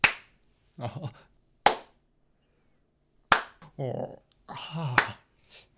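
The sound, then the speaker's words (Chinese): Four sharp, isolated hand claps, made away from the microphone, ring out at uneven intervals, with short bursts of people talking filling the gaps between them. “我决定要在远方拍手，让麦克风不要收音受那么难过。”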